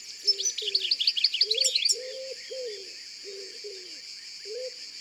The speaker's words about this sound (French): Ça, c'est un pigeon ramier.